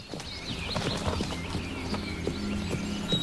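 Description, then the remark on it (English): A buckskin horse trots steadily in circles around a man in an enclosure as he gently taps the ground behind it with a long switch, its hooves striking firm ground in a quick, regular clip-clop rhythm, with no one speaking. “He gently taps the ground behind it with a long switch to make it trot round him.”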